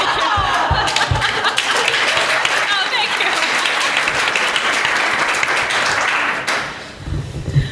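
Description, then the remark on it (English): Steady clapping from a group rolls on for about six seconds, then quickly dies away, with a person speaking briefly over the last of it. “So as a saddest clap of all time.”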